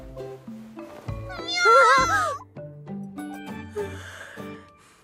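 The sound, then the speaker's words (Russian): A single drawn-out cat meow rises and wavers near the middle, loud and close, set against a steady backdrop of plucked, stepping music notes. “А? Мяу?”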